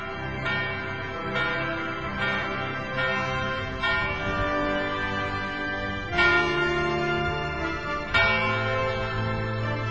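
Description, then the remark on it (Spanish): A church bell rings out in repeated, evenly spaced strokes marking the start of a new hour, each leaving a long shimmering hum that overlaps the next. The tolling is loud and resonant with no voices present. “La campana nos marca el comienzo de una nueva hora.”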